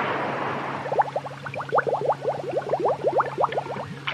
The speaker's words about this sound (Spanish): ¡Ay! Hay un montón de sonidos de agua. Ya no los tengo que ir a buscar.